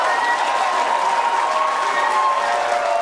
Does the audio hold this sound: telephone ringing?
no